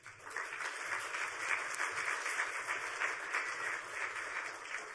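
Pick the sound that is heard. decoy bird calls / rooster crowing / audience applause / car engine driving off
audience applause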